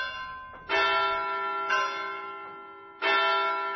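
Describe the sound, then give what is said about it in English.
A large bell rings out in loud, resonant strokes, three strikes at uneven intervals, each tone humming and slowly fading before the next. No voices are heard. “I also did not know that September the 9th was celebrated by ringing bells or playing other instruments.”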